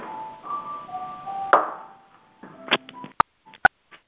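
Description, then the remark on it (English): A handful of short telephone keypad touch-tone beeps and sharp clicks come in an irregular burst as someone presses *6 to mute their phone line, preceded by a few seconds of faint, steady tones and low background hiss. “If that's your phone or your music going on, please mute your line. Hit *6.”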